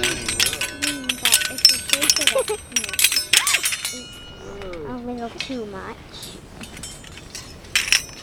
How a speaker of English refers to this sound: Girls, come over here for a minute and let's see if we can hear our wind chime.